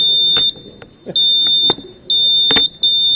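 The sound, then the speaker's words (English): Quiz game buzzers being tested before play sound in a quick series of loud, shrill electronic tones, each one triggered with a sharp click as buttons are pressed one after another, with no talking. “All right, check your buzzers.”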